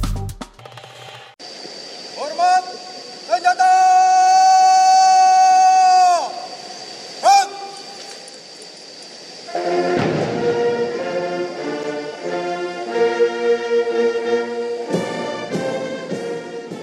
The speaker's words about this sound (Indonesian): Suara dentuman meriam dan iringan lagu kebangsaan Australia menyambut kedatangan Gubernur Jenderal Australia David Hurley di Istana Kepresidenan Bogor, Jawa Barat pada 17 Mei lalu.